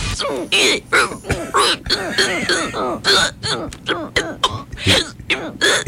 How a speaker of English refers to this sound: Did you ever hear the hiccup newscast from the Australian broadcaster? Oh, yes. Yes. We have just the hiccups from that.